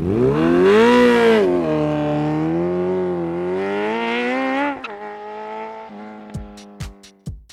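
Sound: motorcycle engine revving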